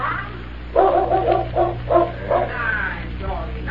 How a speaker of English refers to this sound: I'm awake. The dog. Someone's coming, boss.